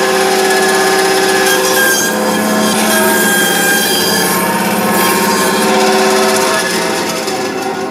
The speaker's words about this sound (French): Alors j'ai passé à la scie, ça fait pas très, très traditionnel cette histoire-là, mais c'est pour éviter les éclats d'os.